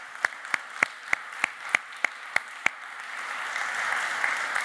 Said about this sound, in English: Now, over the course of this Easter period, you may have noticed that we have some eggs outside. And they've been brilliantly painted. Let's give a round of applause to the artists. Well done.